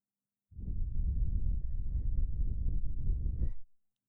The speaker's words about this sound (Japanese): 男性はこうしてお耳に息をかけられると気持ちよくなるとお聞きしました。お姉ちゃんの吐息はどうですか？